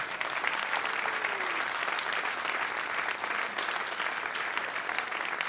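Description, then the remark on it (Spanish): An audience claps in sustained, dense applause for the King, Jesus, that stays steady and loud for several seconds, a continuous wash of many hands with no break. “Dale un aplauso al Rey.”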